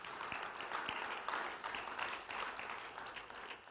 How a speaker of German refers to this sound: Na, dann gibt's dem Herrn einmal einen Applaus, dass wir dabei sein dürfen.